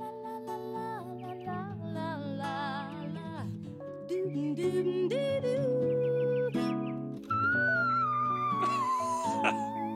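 A woman sings very high, piercing sustained notes with quivering vibrato in the whistle register, loud and close, over a full instrumental backing that keeps playing throughout.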